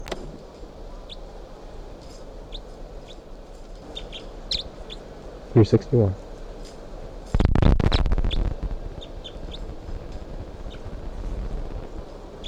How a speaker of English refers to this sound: And all of a sudden, the bird started calling, and including bird 361, the new type 5 female. And I'm trying to tape record her right now.